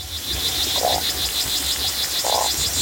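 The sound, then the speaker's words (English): Two short, low grunting pulses from fish in a river, isolated from the background by a sound-detection tool, spaced about a second and a half apart, over a steady high-pitched buzzing hum and a low rumble. No one speaks. “Or fish grunts.”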